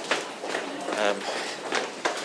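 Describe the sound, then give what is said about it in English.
A crowd of people running down toward the train at Richmond, their hurried footsteps overlapping in a dense, irregular patter with sharper thuds standing out, under a steady wash of indistinct voices. “Lots of people running down toward the train now, back in the opposite direction.”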